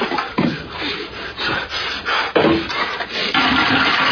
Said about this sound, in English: Come on, flush, you bastard.